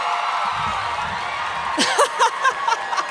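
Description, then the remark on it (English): A live audience at a show in Atlanta makes a broad wash of noise that swells into scattered cheers and whoops, with a few sharp voices rising out of the steady din. “I turned my chair around because I thought we'd connect more and you'd cheer for me louder.”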